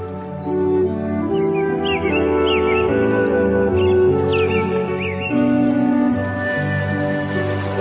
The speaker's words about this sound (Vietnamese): Dù những cảm xúc về đêm có nặng nề và u buồn, thì sau một giấc ngủ dài, sau những cơn mưa đêm, tiếng chim họa mi sẽ đánh thức ta trong một bình minh ngập nắng.